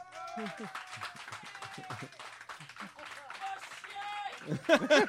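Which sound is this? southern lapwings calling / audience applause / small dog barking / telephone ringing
audience applause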